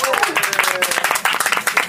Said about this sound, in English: So applause because you has passed this game. Bravo.